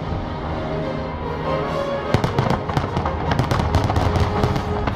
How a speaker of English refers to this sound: And I was watching the fireworks, and I felt something.